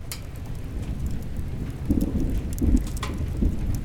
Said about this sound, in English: What a storm! It must be the biggest storm ever!